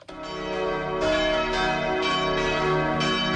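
Church bells ring out in a steady, overlapping peal, new strikes landing about every half second over a rich, sustained hum, loud with no voices.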